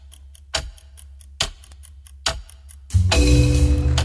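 chess clock ticking

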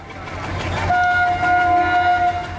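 train passing with horn

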